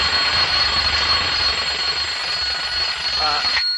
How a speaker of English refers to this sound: What the hell is that? That, diarrhea face, is my official alarm clock. I set it last night before I went to bed.